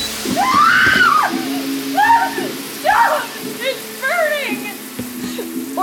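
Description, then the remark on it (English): A state-of-the-art smart shower runs with a steady, loud hiss of spraying water, while a muffled, wordless voice rises and falls in short wavering phrases over it. “State-of-the-art, smart shower, top of the line.”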